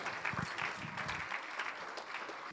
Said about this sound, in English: Why don't we go down worshiping and praising God? Amen. Let's clap our hands. Hallelujah.